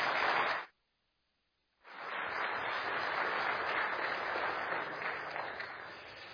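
An audience at Liberty Baptist Church breaks into sustained applause welcoming a guest speaker to the platform, a dense steady clatter of many hands clapping, briefly cut by a second of silence before resuming strongly and holding for several seconds.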